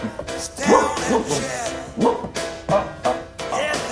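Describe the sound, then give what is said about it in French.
A person crawling on all fours imitates a dog, letting out a series of about five or six loud yapping barks at an uneven pace, with no other talking. “Le chien de madame est sur la piste.”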